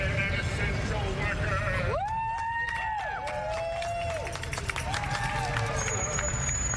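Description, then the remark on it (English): A crowd gathered outdoors on a street on Broadway, drawn by a singer singing, with a steady wash of murmuring voices and noise. Long sustained tones rise above it around the middle, followed by a few shorter calls. “It started to attract a crowd down on the street now.”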